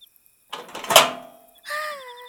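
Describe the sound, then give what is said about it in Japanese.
A brief scraping rattle as a small plastic hatch on the back of a device is pried open, followed by a short squeaky creak, moderately loud with no voices. “あ、ねえ見て、背中にちっちゃい扉みたいなのがある。って、何こじ開けようとしてんの？”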